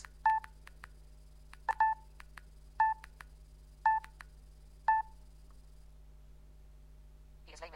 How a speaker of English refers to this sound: There, when you get that high beep, you're at the bottom of the slowest setting.